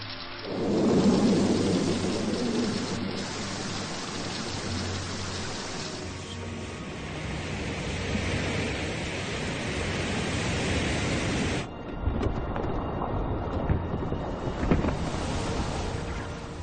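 A thunderstorm roars with heavy rain and gusting wind, a deep rumble of thunder rolling in near the start, the dense downpour hissing steadily throughout with no one speaking.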